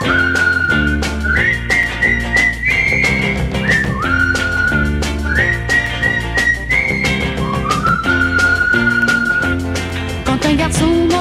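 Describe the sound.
A bright whistled tune carries a bouncy melody over steady instrumental backing, the notes held and stepping up and down, loud and continuous throughout; a little whistled signal that friends use to call one another.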